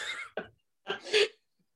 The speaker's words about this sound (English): So Croatoan, hold on, I have to blow my nose.